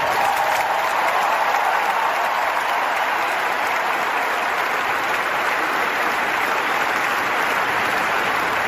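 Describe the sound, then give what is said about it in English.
A large arena crowd at a North Carolina basketball game applauds and cheers steadily, a dense, continuous roar of clapping and shouting that stays loud and even throughout, with no single voice standing out. “And I hope in the second half you'll get even louder and cheer harder.”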